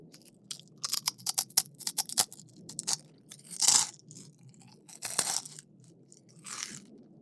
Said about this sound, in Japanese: ポリポリポリポリ。って音、気持ちいい？